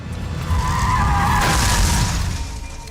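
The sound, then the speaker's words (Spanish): A car engine roars as tires screech and skid loudly across pavement, a sustained squeal lasting a couple of seconds over a heavy low rumble, intense; the driver floors the accelerator as the car pulls out of a rest area. “Justo cuando Fernando está a punto de salir del área de descanso, May pisa el acelerador.”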